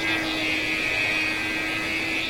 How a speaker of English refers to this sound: you're actually controlling that engine sound directly. You don't need fancy headphones for this. Your headphones are stereo. As your car turns left, the engine sound in your left ear gets louder. The sound slides to where your car is.